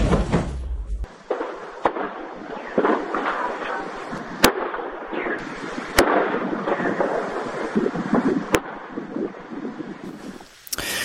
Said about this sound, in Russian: Только что такое пошла взрывная волна. Там кошмар. Ой-ой-ой-ой-ой.